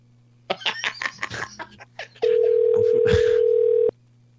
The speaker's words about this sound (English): I don't think she can resist answering a ringing phone. She might. This is like the movie Phone Booth. Like, you can't walk away from a ringing phone over here.